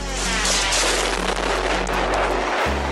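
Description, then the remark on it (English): The warhead of an Iranian UAV drone that flew to its target and impacted it explodes in a loud, sustained roaring blast with dense crackling and deep rumble that holds for a few seconds, briefly dipping near the end. No one speaks. “It flies to a target, impacts it, and then that warhead explodes.”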